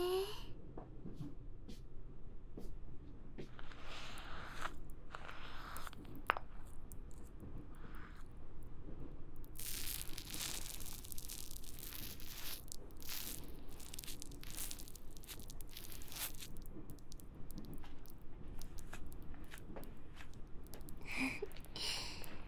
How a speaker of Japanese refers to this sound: シュワシュワって自然に泡が潰れていく音がいいんですよね。